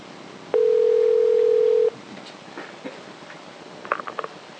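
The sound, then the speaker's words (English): A steady telephone dial tone hums loudly for over a second, then cuts off, followed by faint clicks and a brief cluster of soft dialing beeps on a quiet phone line, as LugRadio places a call to a guest from KDE. “It's Lug Radio calling.”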